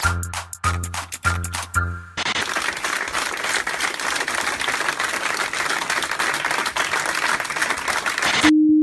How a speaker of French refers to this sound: Voilà, ça c'était les applaudissements spontanés au cours d'une réunion spontanée des journalistes de France 2, le jour où ils apprennent que David Pujadas est écarté du 20h.